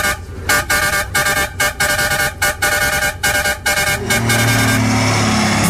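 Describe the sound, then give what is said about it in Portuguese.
A truck driving past honks its loud horn in a rapid series of short, repeated blasts over engine rumble, then the horn stops and the low drone of the engine carries on. “Vamos embora, o caminhão da ruedeira.”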